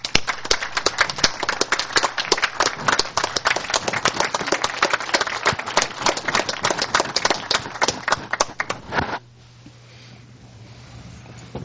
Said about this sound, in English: I would just like to see our commission and this audience thank him with a round of applause.